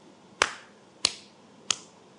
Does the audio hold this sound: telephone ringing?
no